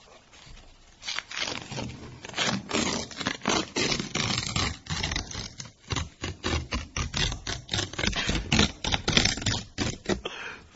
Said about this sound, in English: Sounds almost as if a tiger eats an elephant. It's simply paper, don't worry. Nothing unethical is taking place here.